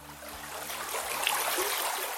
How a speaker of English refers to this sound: The headwaters of the Yakima River begin high up in the Cascade Mountains, here at a stream called Gold Creek.